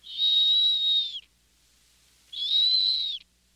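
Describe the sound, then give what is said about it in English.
Two long, steady, shrill whistles of a snowy owl's call, each about a second, separated by a short pause. They sound clear, with no talking or other sounds around them, much like a kettle whistling. “If it sounds like a kettle whistling, it's a snowy owl.”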